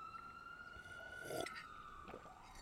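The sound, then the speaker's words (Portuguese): An ambulance siren holds a steady, slightly shifting wail throughout in the background, faint beneath low background noise, with no one speaking. “Uma ambulância aí de fundo.”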